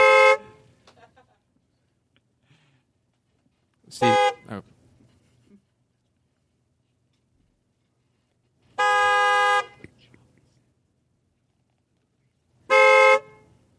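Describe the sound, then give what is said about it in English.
Car horns honk in four separate loud blasts, the first and last short, one a longer sustained beep, with quiet pauses between them and a brief spoken word in the gaps. “Sometimes if I'm taking a little while too long, she invites her friends, and they have a beep club, and they beep.”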